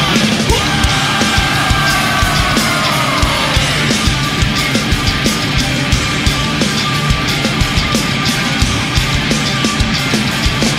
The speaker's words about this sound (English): Are you ready to scream? One, two, three!